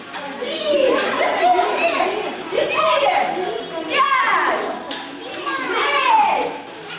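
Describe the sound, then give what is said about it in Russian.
A crowd of children plays noisily at contests and games around a New Year tree in a hospital, with overlapping high-pitched shouts, calls and chatter filling the space continuously, rising and falling in waves. “И в этот раз никто не будет ругать их за шум и гам.”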